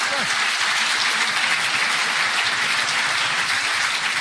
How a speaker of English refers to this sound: you want me to clap there? Go ahead.